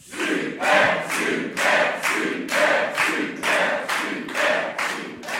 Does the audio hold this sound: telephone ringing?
no